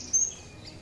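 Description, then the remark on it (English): A brief, high-pitched bird chirp rings out over a soft, breezy outdoor background in the rain, with a fainter trill following; no one speaks. “Cosmo's recording these sounds, which he then makes into music in his studio.”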